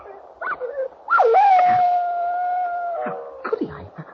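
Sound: dog howling and whimpering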